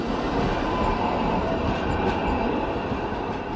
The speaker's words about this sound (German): Straßenbahnen der Linie 2 ziehen an uns vorbei. Sie fahren in Richtung Kossuth-Platz, in Richtung Parlament.